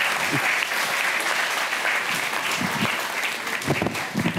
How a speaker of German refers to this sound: Ein Applaus für Axel Petermann. Dankeschön.